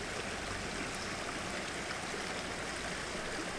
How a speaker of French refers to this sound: L'eau, tu vois, la rivière, c'est des moments de recueillement. T'es en osmose complètement, tu vois, t'as le bruit de l'eau, t'as pas d'autre bruit que l'eau.